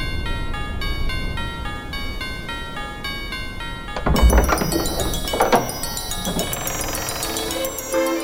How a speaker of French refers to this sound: me voici au Pôle Nord, non loin de la maison du Père Noël, dans laquelle je suis invité pour une interview exclusive. La température est extrêmement basse, il me tarde d'être chaud, me voilà maintenant devant la porte, je sonne.